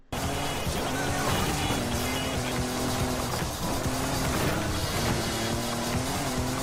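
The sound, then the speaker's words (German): A racing game car engine drones loudly and continuously, its pitch climbing and dipping as the revs shift, with no voices over it. “In den verdammten Kurven einfach voll einlenken, übelst auf die Bremse hauen, die Bande richtig fett andutschen und dann wieder Vollgas geben.”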